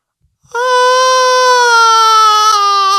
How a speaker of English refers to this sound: Give us your biggest war cry.